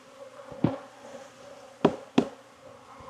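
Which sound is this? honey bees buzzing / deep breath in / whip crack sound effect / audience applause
honey bees buzzing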